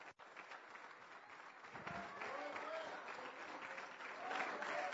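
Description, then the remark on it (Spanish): An audience at a church service breaks into sustained applause for God, a dense steady wash of many hands clapping that swells slightly louder toward the end, with faint voices mixed in. “De un aplauso al que vive para siempre.”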